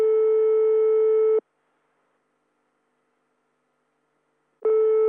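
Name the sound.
telephone ringing tone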